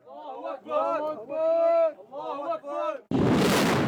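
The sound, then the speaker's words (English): In Libya in 2011, several men shout in raised, chanting voices for about three seconds, then a rebel rocket launcher a few metres away fires at Colonel Gaddafi's army with a sudden, loud, roaring whoosh that fills the last second and drowns out everything else. “Just a few metres away is a rebel rocket launcher firing at what remains of Colonel Gaddafi's army.”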